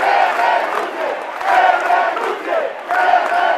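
A large crowd in a plaza chants slogans in unison, the massed voices rising in loud, rhythmic surges roughly every second and a half, with a steady roar of voices between each shouted phrase.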